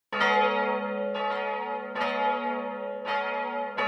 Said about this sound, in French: Le 6 janvier 1482, les cloches de la ville de Paris sonnent joyeusement, car ce jour-là, il y a deux fêtes.